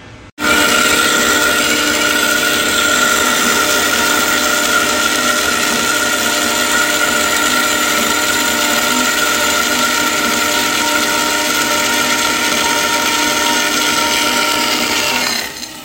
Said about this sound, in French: Voilà, le son que vous venez d'écouter est le son d'une scie. On s'en sert beaucoup en métallerie.